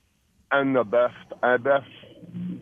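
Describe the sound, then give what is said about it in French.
A person mimics a pigeon cooing with two pairs of warbling, throaty hoots, fairly loud, followed by a low murmur of background noise. “Ah oui, c'est un pigeon, ça roucoule.”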